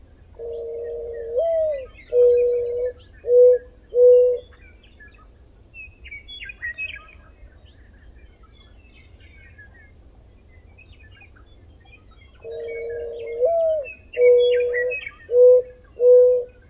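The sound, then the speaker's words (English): A mourning dove gives two soft, mournful coo phrases several seconds apart, each a drawn-out rising and falling note followed by three shorter hoots, with faint birdsong and a low background hum. “A good example is the mournful coo of the mourning dove.”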